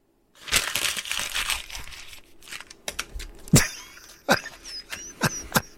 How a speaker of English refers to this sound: But I do know the crumpled up paper is a staple of Jim Rome.